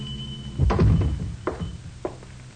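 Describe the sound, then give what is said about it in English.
A teenage boy shoves open the door of a small, dark hardware store on the west side after 10 at night, with a heavy wooden thunk and a rattling clatter, followed by two softer knocks as it settles. No one speaks. “It's after 10 and the store is dark, but one of them pushes the door open, enter, and walk cautiously to the rear, where a small naked light bulb burns dimly.”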